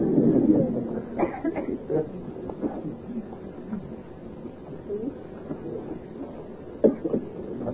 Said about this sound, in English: Don't be unhappy just because of a cough.